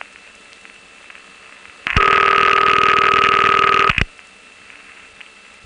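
A single telephone ring burst lasting about two seconds, loud and steady in pitch but with a gurgly, rattling buzz, ringing in a switch room on a C&P official number in the 9900 group in suburban Virginia, with quiet before and after.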